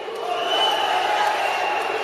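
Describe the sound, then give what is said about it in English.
A large crowd marches, waves signs, and roars and chants together at a rally at the Capitol, a steady, dense wall of many voices that stays loud throughout the short moment. “Crowds of people will march, chant, and wave signs trying to draw lawmakers' attention.”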